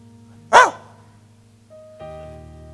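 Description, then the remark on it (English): A single sharp bark from a dog outside rings out at moderate loudness, followed by a steady low hum and a faint tonal drone in the background; no one speaks. “I got a dog out there sometimes.”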